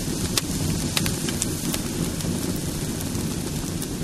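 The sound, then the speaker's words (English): A large festival bonfire at the Cremada del Demoni (burning of the devil) in Badalona, on 10 May, eve of the feast of Saint Anastasius, crackles steadily, with sharp snaps and pops over a dense, continuous roar and a low rumble underneath, moderately loud, with no voices. “Can you hear the crackle of flames?”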